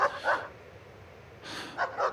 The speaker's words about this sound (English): I hear this one dog, and I'm worried about them. I don't know where that dog's coming from. It's really weird.